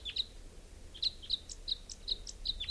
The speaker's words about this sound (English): Recording type 5, bird coming in. Pointed at 395. Here's a wild bird.